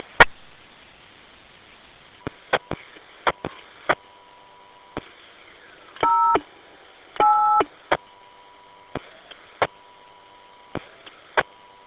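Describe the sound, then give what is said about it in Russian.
Short electronic tone beeps sound over a radio channel, a string of separate clicks and bleeps with two longer dual-tone dialing bursts in the middle, heard against faint hiss with no talking. “Тон 123 надо набрать.”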